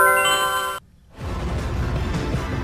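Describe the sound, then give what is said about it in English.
An AOL instant message notification: a bright, sustained electronic chime rings for under a second, cuts to a brief silence, then gives way to a rough, noisy whoosh. “Is that like an instant message, like an IM?”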